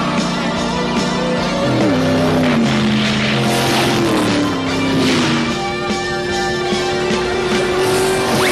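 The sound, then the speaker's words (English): A tractor engine drives loudly and continuously, its steady drone shifting pitch as it revs up and settles into a higher hum, with no voices. “Hey, Orsi, your brothers are like stealing hubcaps with the whole tractor attached.”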